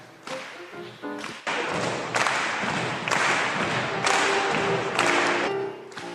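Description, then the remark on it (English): An audience stomps feet and claps hands together in a steady rhythm, heavy thuds mixed with sharp claps, loud, with a few voices calling out briefly. “So I'm going to need your foot stomping, your hand clapping.”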